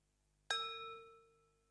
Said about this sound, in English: The sweetest sound he'd ever heard in his life. The last gong. The retreat was over.